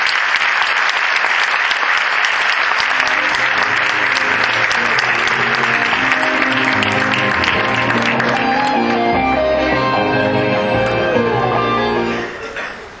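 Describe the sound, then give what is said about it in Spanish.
An audience claps steadily in sustained, dense, loud applause, with some faint tonal music underneath, before the clapping tapers off at the end. “Así que aunque esté ausente, le hacemos un fuerte aplauso.”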